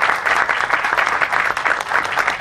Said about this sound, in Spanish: Gracias, un aplauso para él también, por favor.